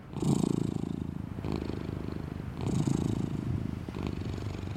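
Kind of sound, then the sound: animal, cat purring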